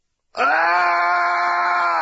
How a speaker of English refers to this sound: "Ah!" "I can scream louder," said Serge. "Ah!" "The Everglades are the perfect place to scream. You're not bothering anybody."